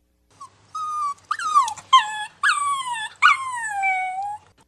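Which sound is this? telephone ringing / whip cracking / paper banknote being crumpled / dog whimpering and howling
dog whimpering and howling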